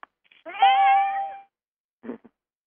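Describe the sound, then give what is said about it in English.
A single drawn-out cat meow, clear, followed by a short pause and two brief, softer chirping sounds. No one speaks. “I hear a cat.”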